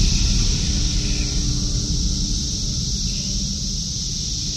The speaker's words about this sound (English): What's so interesting about the cicada sounds is when you just hear it for the first time, you just hear white noise. You just hear shh. Just noise. But when you learn what's going on, you can hear the different parts of the orchestra.